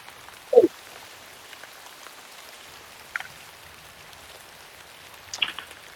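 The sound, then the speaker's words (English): Steady rain from a storm in Mirkwood, heard from inside a hollowed-out tree trunk roofed with bark and thatch, hisses softly and evenly throughout, broken by three sharper drip-like taps at irregular intervals. No voices are heard. “It's not certainly as luxurious as a hobbit hole, but it's certainly better than being outside in Mirkwood in the storm.”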